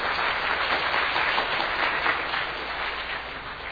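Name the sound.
welcoming applause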